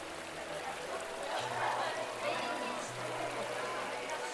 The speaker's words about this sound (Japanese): 高校の卒業式、第八賀川のせせらぎに白線とスカーフが流れていく。白線流し、男子の学帽の白線と女子のセーラー服のスカーフを結んで流す伝統行事だ。